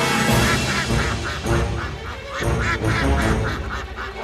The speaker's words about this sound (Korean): 릴리는 자기도 모르게 꽥꽥 소리치고 말았습니다.